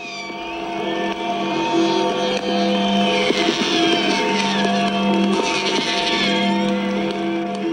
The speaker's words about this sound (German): Ja, das ist 0:00, 3. Oktober, also mitten in der Nacht. Und das ist die Freiheitsglocke vom Reichstag. Und die ganzen Nebengeräusche, das sind die Raketen und Böller